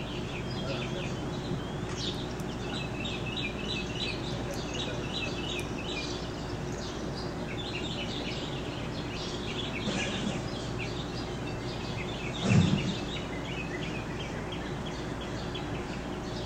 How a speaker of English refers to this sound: What I hear is different types of birds, but I may be wrong because I'm not a statewide non-game ornithologist expert, but let's take a listen to this sample and see what it is.